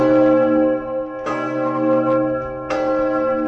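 The large Augustin bell in the White Tower tolls loudly, rung solo by bell-ringers. Fresh strikes land roughly every one and a half seconds over a long, humming, overlapping resonance.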